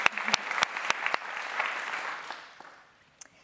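At an award event, an audience applauds Tom Andrews of Loughborough University, who is joining online, for Microparks. The applause is a burst of dense, clattering claps with a few sharp louder ones, swelling briefly before tapering off and fading out over about three seconds.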